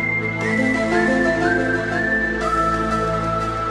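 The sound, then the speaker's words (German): A clear whistled melody over steady instrumental backing, each note scooping up slightly from below before settling on its pitch, with a few sustained tones in a row. “Und das Pfeifen wollte ich noch hervorheben.”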